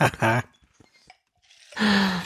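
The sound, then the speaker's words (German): A puppy gives two loud, short, high-pitched barks, one at the start and one at the end, with faint rustling and small noises in the quiet gap between them. “Aber da haben wir mal gehört, wie viel Stimmchen dieser Hund schon hat.”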